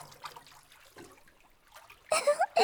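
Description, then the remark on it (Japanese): Soft watery sloshing and dribbling as two people wash a man's arms in a rose-scented bubble bath, then a louder burst of splashing near the end, bright, with faint voice-like murmurs earlier. “兄さん、腕も洗いますね。 ブラネもこっちの腕洗う。お兄ちゃん、泡風呂はどう？”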